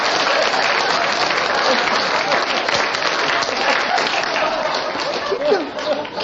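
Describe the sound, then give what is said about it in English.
Steady, dense applause from a seated audience fills the whole stretch, a continuous wash of many hands clapping at an even, fairly loud level with a few faint voices mixed in. “It was a applauding. Seated ovation”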